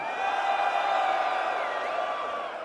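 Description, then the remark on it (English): A crowd screams on cue in a sustained, high-pitched roar that holds steady and loud throughout, easing off slightly at the very end, with no talking over it. “One more time. Where my ladies at?”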